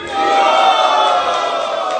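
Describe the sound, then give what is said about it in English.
A crowd at a ceremony cheers for Wales, loudly and steadily for about two seconds, a dense wash of voices and whoops that swells in quickly and holds at full volume. “Let's hear a cheer for Wales.”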